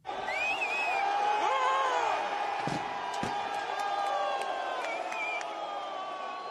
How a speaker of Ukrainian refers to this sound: От ви чули оплески, і такий хлопок, такий об землю, це, власне, удар цієї статуї Леніна, мармурової статуї Леніна об землю.